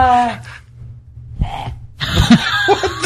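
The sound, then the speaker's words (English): Someone hacks and coughs in a few harsh, throaty bursts, like coughing up a hair, ending in a louder gagging fit. “Coughing up a hair.”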